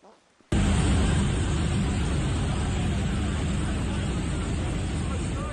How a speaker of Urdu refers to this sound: شوقیہ طور پر بنائی گئی ایک ویڈیو میں شیراز کے شہر میں گزشتہ 24 سے 48 گھنٹے کے اندر ایرانی حکومت کے ہیلی کاپٹروں کو فضا میں منڈلاتے ہوئے دکھایا گیا، جبکہ متعدد مقامات پر لگائی جانے والی آگ سے اٹھنے والا دھواں آسمان پر چھایا ہوا تھا.